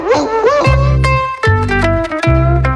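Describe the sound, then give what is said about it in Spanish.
A dog gives a short, wavering howl, then lets out several loud barks in an uneven series, with a low sustained tone humming beneath them. “27 de julio, Día Internacional del Perro Callejero.”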